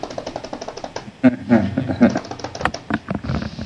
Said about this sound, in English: Wow, that is some angry typing. It actually was not. It just might probably sounds loud.